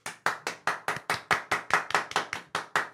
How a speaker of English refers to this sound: Do we clap at the end now?